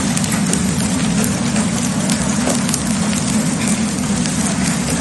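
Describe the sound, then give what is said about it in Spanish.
Heavy hail, with pieces of ice up to the size of a walnut, pelts down hard and constantly on hard surfaces during an afternoon storm in the city of Valencia, Spain, a dense, loud clattering roar with scattered sharper impacts and a low rumble beneath, with no voices. “Es el sonido de la tarde, granizo con fuerza en la ciudad de Valencia”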